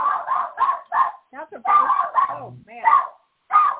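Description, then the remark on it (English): A dog barks repeatedly at the door of a home as a delivery from Amazon or another delivery service arrives, a quick series of sharp barks with a few higher whiny yips mixed in, filling the short stretch with brief pauses between bursts. “He started barking at the door.”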